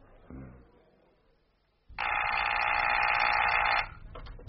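A telephone at the Ballylennan call office rings in a single loud, continuous buzzing burst lasting about two seconds, after a brief low voice sound and a quiet pause.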